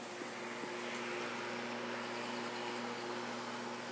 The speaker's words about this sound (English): That is Mr. Anderson mowing the lawn with our new electric lawnmower at about 9 o'clock in the morning on a Saturday.